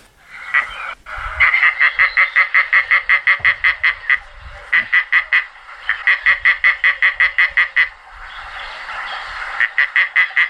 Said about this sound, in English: That's quite different as well, isn't it? Different again. They're like sort of seagulls. Oui, presque. A little bit. That's the Egyptian vulture.